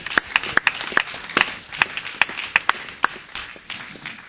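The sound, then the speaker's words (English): An audience claps for the Lord in a steady rhythmic beat, roughly a dozen sharp, bright claps over a faint wash of background noise, with no one talking. “Give the Lord a clap up.”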